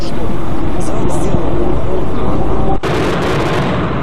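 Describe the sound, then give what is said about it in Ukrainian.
Loud, dense explosions and rumbling blasts fill the scene without a break, with a sharp, sudden burst near the end, amid heavy background noise and indistinct commotion, in the centre of Luhansk on 2 June around 3 p.m., as a fighter jet makes its last, lower circle over the city. “Близько 15-ї робить останнє коло нижче, ніж до того. Лунають вибухи.”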